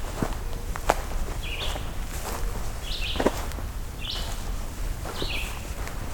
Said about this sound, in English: And pine warbler.